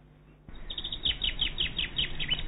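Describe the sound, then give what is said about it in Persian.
A small bird sings a quick, bright song of repeated high chirps after a brief quiet start, the notes tumbling steadily over soft background hiss. “همه ساکت بودن و آواز پرنده کوچولو رو گوش دادن.”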